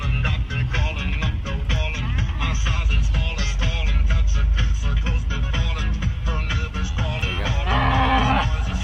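A cow moos over loud, continuous music with a steady beat, its low drawn-out calls blending into the dense song rather than standing alone.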